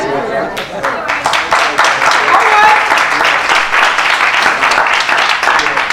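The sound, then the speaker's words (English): A church audience claps steadily and loudly for several seconds during a sermon, applauding a scripture reading: a dense patter of many hands with voices murmuring and calling out underneath. “See, you hear them clapping.”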